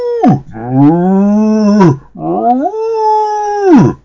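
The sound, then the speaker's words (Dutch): Cows in a cow barn give two long, loud moos in close succession, each sliding down in pitch and then rising at the end, with no talking. “Toen de drie koeien die er stonden Niels zagen, begonnen ze luidkeels te loeien.”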